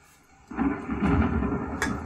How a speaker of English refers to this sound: Flashing of lightning, the rumbling of the storm.